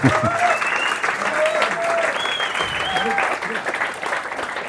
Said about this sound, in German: Ja, der Applaus gehört euch.